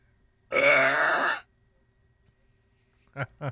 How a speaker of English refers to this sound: Here it was, the world record for the world's loudest burp by a woman.